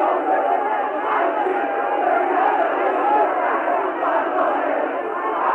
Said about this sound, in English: Thousands of Haitians massed outside the capital's magnificent white-domed presidential palace to cheer the man dubbed in native Creole Coq Kalite